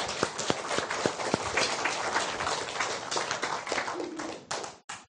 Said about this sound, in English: They're good, aren't they? Don't you appreciate them? Well, come on, give them a round of applause then. Come on.